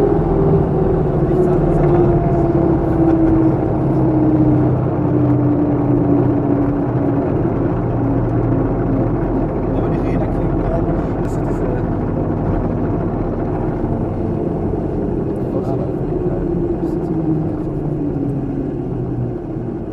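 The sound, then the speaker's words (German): A steady, loud engine drone with a slowly falling tonal whine over deep rumble, from a very small airplane in flight at about 58 knots. “Soweit der Flug und hat mir riesen Spaß gemacht und was ganz witzig war, ist ein relativ kleines Flugzeug, also es ist wirklich sehr kleines Flugzeug”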